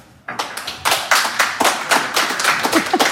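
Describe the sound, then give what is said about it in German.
An audience breaks into applause after a brief silence, many hands clapping in a dense, steady patter that stays loud and even throughout, with no voices heard. The applause welcomes Martin Zehringer, artistic director of the International Climate Culture Festival, at a Radio 1 event. “Ich bitte Sie um einen herzlichen Applaus für Martin Zehringer.”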